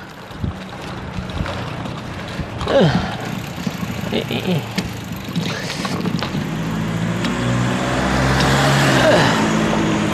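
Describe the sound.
A car engine rumbles from behind and grows steadily louder as it approaches along a street in a quiet residential neighborhood, mixed with wind buffeting the microphone and some faint voice sounds.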